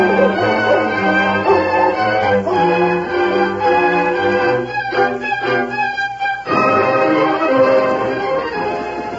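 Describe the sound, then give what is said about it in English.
A hound on a leash, following a scent trail, bays and barks in long, drawn-out calls, loud, one after another with hardly a pause, and no talking alongside. “And give the hound a whiff and see if he can get a scent and follow it.”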